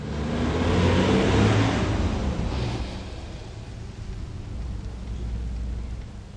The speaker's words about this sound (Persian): سیما زیر باران از تاکسی پیاده می شود.